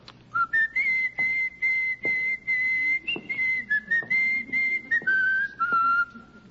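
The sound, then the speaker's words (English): A person whistles a melodic tune, thought to be the Marine Hymn, with clear sustained notes rising and falling in a steady phrase and brief breaths between them, no talking. “The whistling. Oh, just whistling. You know the tune, of course.”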